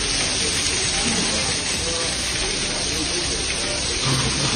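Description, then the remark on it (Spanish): Steady, dense hiss of rain falling on the morning of the first day of the Masters golf tournament in Augusta, a continuous wash of noise without pauses, with faint low rumbles and murmurs underneath. “La lluvia, Ángel García, que eso sí, no ha conseguido retener a los golfistas en esta primera jornada”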